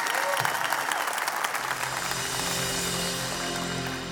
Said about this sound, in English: And God's doing that through you, Woodland Church. Give them one more thank you and round of applause.